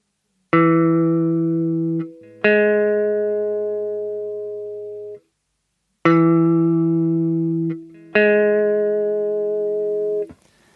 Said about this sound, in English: The next interval is 09, or the major sixth.